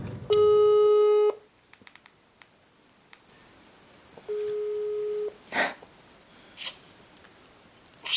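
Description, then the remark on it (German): A telephone ringback tone sounds twice, each a steady one-second electronic tone with a long gap between, followed by a few soft clicks and rustles as the line picks up. “Gespräche mit ihnen sind vor allem über das Telefon möglich.”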